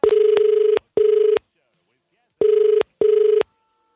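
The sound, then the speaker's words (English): A telephone ringing tone sounds in two double-burst rings, each pair of short, steady buzzing pulses separated by a pause, fairly loud with no one talking, during a phone call to a hairdresser. “I just called a random hairdresser”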